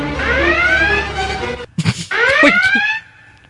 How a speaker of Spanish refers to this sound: enciendan la alarma.